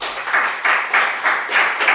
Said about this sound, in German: Mit einem interessanten Talk, Datasporen zur Einfallslosigkeit der Technoanthropomismen in der Sprache, Denken und Entwerfen, klingt interessant, und ein Applaus